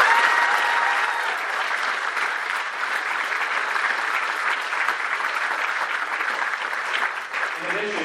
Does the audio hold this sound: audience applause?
yes